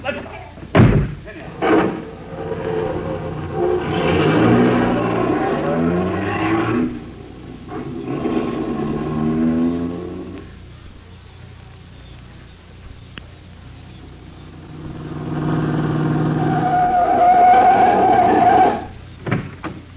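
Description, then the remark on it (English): Two sharp car door slams close together at the start, then an engine roars up and revs in sustained surges as the car pulls away, loud, fading briefly before another strong rev. “All right, in the car, you two. Hurry it up.”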